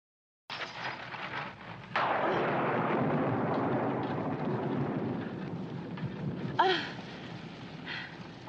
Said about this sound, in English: Sometimes I'm afraid of the lightning. It's just an atmospheric discharge. Oh. Nothing to be afraid of.